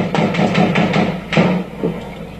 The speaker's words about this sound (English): That's what Rio's massive Rocinha favela sounded like a couple of weeks ago. The gunfire went on for more than 3 hours.